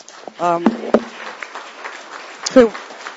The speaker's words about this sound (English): Could we hold applause? It takes up time.